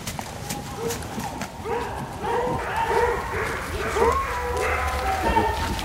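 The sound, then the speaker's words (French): A pack of hunting hounds bays in woods as they chase a female deer, their repeated yelping calls overlapping at a steady pace, with hoofbeats, rustling and faint voices underneath. “Les chiens sont là. Ils sont en train de chasser les chiens. Vous entendez?”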